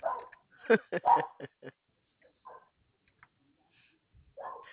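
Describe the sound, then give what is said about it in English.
A dog barks in a quick cluster of sharp, fairly loud barks, then a few softer, scattered yips and whines after a short pause. “Now the door is going to start to bark.”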